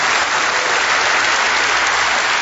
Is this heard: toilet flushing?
no